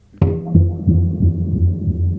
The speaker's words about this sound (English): This is spring delay and reverb and all delay effects on it. So I just should explain to people listening that when you hit the drum, here, just hit it once.